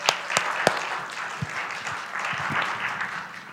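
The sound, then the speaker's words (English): Audience applause at Living Hope church: a dense, steady wash of many hands clapping throughout, with a few sharper individual claps standing out near the start. No talking over it. “That applause is for Jesus Christ and the Holy Spirit who empowers me.”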